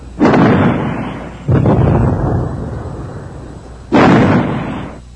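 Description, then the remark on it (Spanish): Three heavy cannon blasts from an ironclad warship boom out one after another, each a loud detonation that rumbles and fades before the next shot and shell explosion hits, a shot striking the command tower. No voices are heard. “Un nuevo disparo del blindado impactó en la torre de mando y también Aguirre siguió en la gloria a Grau.”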